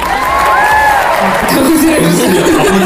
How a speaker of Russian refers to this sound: Овация, овации.